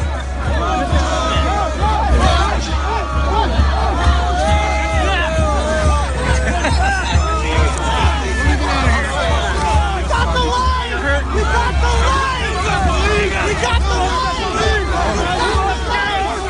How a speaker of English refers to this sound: So if you're a radio listener, it's probably 1,000 protesters, actually, trying to force through a police line and run the police over their motorcycles.